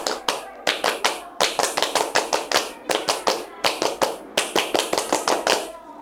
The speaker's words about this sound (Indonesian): Dua kali tepuk pramuka.